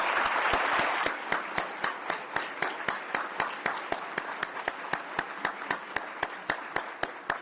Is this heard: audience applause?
yes